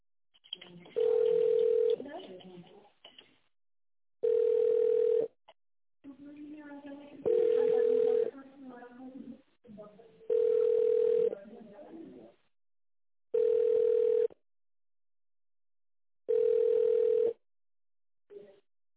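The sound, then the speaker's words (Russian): A telephone ringback tone purrs six times at a steady pace as a call to a contracts department goes unanswered, each roughly one-second tone followed by a pause, heard through a narrow phone line with faint murmuring voices in between. “Трубку не берут, попозже перезвоните, наверное, на другом телефоне разговаривать.”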